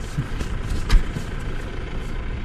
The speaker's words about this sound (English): A tractor engine and the occasional car are about all that disturb the bucolic landscape near the small town of Feldkirchen.